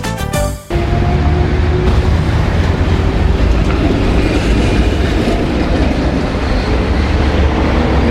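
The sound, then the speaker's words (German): Loud street traffic with a constant heavy rumble and hiss of passing vehicles, continuing without pause after a brief opening moment; no one speaks. “Ihr müsstet jetzt hier bei diesem Verkehr über die Strasse laufen und wäret blind.”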